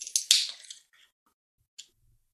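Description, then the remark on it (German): A can of Guinness is cracked open to make a cocktail: a sharp metallic pop followed by a brief fizzing hiss of escaping gas, then a faint tick a moment later and quiet. “Nämlich, man nimmt eine Dose Guinness. Mach die mal auf, vorsichtig.”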